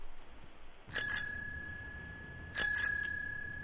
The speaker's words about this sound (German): Fahrradklingel und?